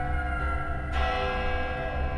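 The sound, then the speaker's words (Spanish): Church bells ring in the distance all afternoon, coming from a spot in the middle of a forest, their sustained overlapping tones blending into a steady wash that swells partway through, set against a low background rumble. “Así fue toda su vida, pero cuando murió, su familia estuvo escuchando toda la tarde el repiquetear de las campanas a lo lejos.”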